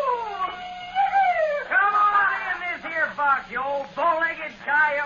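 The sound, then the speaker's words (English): A man's voice imitates a coyote, with rising and falling howls and yips in quick succession, fairly loud over a faint steady hum. “Bull-legged coyote.”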